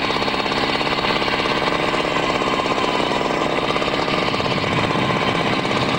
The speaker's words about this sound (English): That night, they take another sample with the drill attached to Tom's truck.